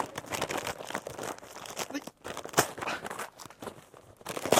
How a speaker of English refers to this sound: But they tear it open. That wrapping paper cannot be used again, can it?